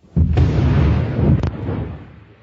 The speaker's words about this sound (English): That massive explosion occurred during the Second World War, when an undersea mine designed to detonate in response to the sound of an enemy ship propeller was mistakenly triggered by the powerful, pulsing voices of fish.